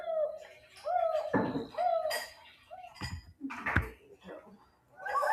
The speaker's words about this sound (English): American desert owl.